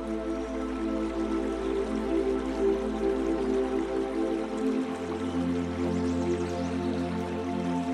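nature, river water flowing

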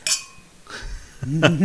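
household object, champagne glasses clinking

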